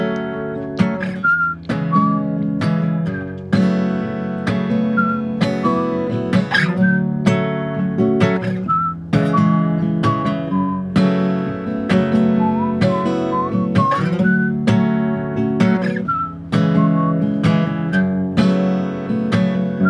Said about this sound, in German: Auch das Pfeifen. Respekt. Das kannst du echt gut. Hat er lang geübt. Ja, das ersetzt gut eine E-Gitarre, finde ich.